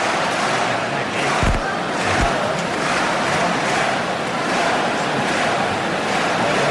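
A large crowd in the square roars and applauds for the Colla Joves de Valls human-tower team after their 2 de 8 sense folre, in a steady, dense wash of noise, with voices chanting the 'Joves, joves, joves' war cry and cheering together throughout and a couple of sharp low thumps early on.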